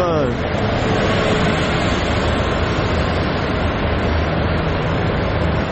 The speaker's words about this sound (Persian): الان ساعت چنده داره اتوبوس رد میشه واقعا؟ کی الان اتوبوس میخواد واقعا؟ چرا؟ الان کی سوار اتوبوس میشه؟ برای چی؟